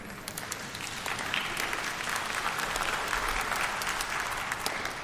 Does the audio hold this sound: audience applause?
yes